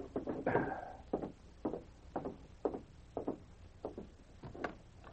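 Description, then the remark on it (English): Soft, hesitant knocking on the wooden door of an office in police barracks, roughly eight light raps in an uneven rhythm, fairly quiet, with no voices. “The dog rose as he heard a timid knock on the door.”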